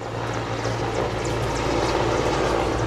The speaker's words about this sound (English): Nearby, huge black helicopters rise out of the jungle at regular intervals, drowning out all other sounds, then sweeping off into the distance.